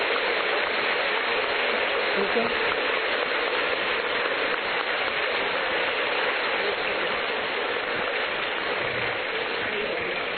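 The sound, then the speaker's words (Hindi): A large audience stands and claps loudly and steadily for about ten seconds as a mark of respect, the dense hiss of applause never letting up, while a voice briefly speaks over it. “Okay, अभी आप एक मिनट के लिए सभी खड़े होकर के जोर से ताली बजा करके सभी वादन करें, सम्मान करें।”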